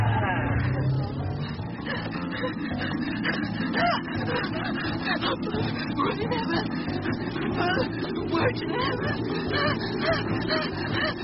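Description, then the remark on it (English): A car being push-started by helpers in a village near midnight, with a loud, steady engine rumble full of rough sputtering and honk-like tones, while several voices shout and talk over it. “As far as I'm concerned, they came out to push start a car.”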